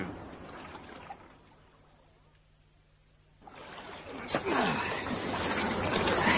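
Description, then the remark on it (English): River water laps and swishes against a boat as it comes in to a landing stage to tie up, quieting briefly before the splashing grows louder and busier; indistinct voices murmur faintly beneath it. “The river water's calm enough.”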